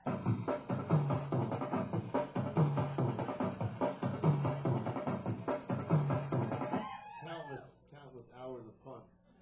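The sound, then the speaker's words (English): An Optigan optical keyboard, the first sample-playback keyboard, which reads waveforms from a disc with light, plays a recording made for it: a steady, pulsing chordal pattern with a low repeating bass, then near the end wavering, sliding cries that sound like whimpering animals. “Should have said that that sound was a recording that I made for my Optigan and put in this little box”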